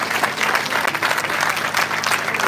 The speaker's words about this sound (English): come on, clap your hands right there one more time.